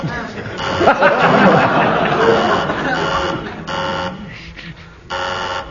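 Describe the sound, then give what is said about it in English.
A harsh electronic quiz buzzer sounds in several loud bursts, some short and one longer, over a noisy background of crowd chatter and voices. “Who buzzed my buzzer? I did. You lose marks for buzzing the buzzer.”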